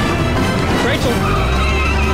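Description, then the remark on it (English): A car carrying Gundar screeches away outside the baths, its tires giving a shrill rising squeal over a dense roar of engine and road noise that fills the whole moment. “Outside the baths, a car screeches away as Alex and Kelly run through a cafe.”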